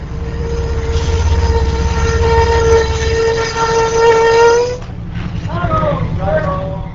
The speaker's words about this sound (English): Now Amtrak pulls up at the edge of a parking lot at the airport, and people can take a 5-minute shuttle bus to or from the airport terminal.